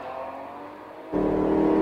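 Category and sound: vehicle, car engine revving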